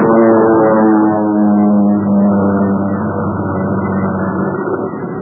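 A low-flying propeller airplane drones loudly overhead, its engine a steady, throbbing hum that wavers slightly in pitch and fades a little toward the end. No voices are heard.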